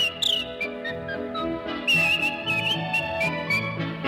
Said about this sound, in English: He spreads a happy feeling and sets the dancers reeling. With a yodel like a church bell's chime. Yodel, and a whistle bright as polka time.